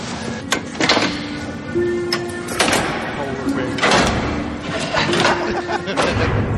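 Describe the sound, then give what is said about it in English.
An eerie door creaks open with a drawn-out groan, punctuated by several hollow thuds and knocks, while voices murmur faintly in the background. “I like this creepy scene, though. The recent palace crews caught the eye of a certain subterranean visitant. Creepy door.”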